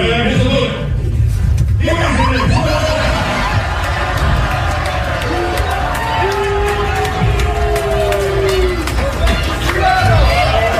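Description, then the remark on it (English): A large crowd roars with cheering, shouts and scattered laughter as toilet paper is suddenly thrown, a loud, steady wall of voices that holds for about eleven seconds, with brief higher yells rising above the din. “you could hear the audio of the crowd reacting when all of a sudden toilet paper”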